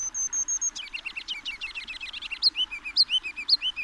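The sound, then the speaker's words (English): A kinglet sings alone at dawn, downtown, from the trees along a creek: a thin, high whistled note gives way to a quick tumbling twitter, then a string of bright, repeated rising-and-falling phrases about every half second. “A kinglet's rambling silly song?”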